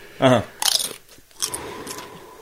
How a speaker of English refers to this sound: I'm gonna have a dry chip just to try.